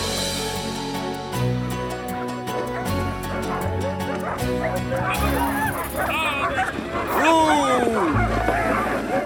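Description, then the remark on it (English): A team of sled dogs barks and yips excitedly as they are mushed in falling snow, with overlapping high-pitched yelps and whines rising over a busy background. Voices murmur, and the noisy chorus grows louder toward the end. “Good dogs!”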